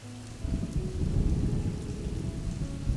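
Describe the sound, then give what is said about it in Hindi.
Heavy monsoon rain pours down steadily, a dense, continuous roar with a deep low rumble underneath, loud throughout with no voices. It is Sawan-season rain falling heavily over the city of Kolkata, heard from a hotel balcony. “सावन का मौसम था इसलिए बारिश काफी तेज हो रही थी।”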